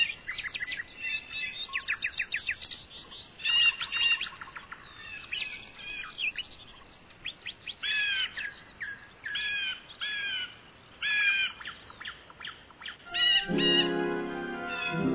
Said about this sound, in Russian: На ветвях поют яркие птицы, то громче, то тише. Вы видите, как они перелетают с одной ветки на другую.